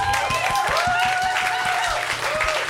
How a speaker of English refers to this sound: I don't know if we're applauding your awesome. I don't know either.